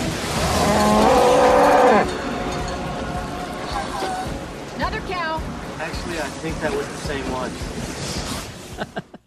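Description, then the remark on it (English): A loud, drawn-out cow moo rises over a roaring tornado wind for about two seconds in the flying cow scene of the 1996 film Twister, starring Helen Hunt and Bill Paxton, then the howling, rushing gusts carry on with indistinct shouting voices mixed in. “This is the famous flying cow scene starring Helen Hunt and Bill Paxton.”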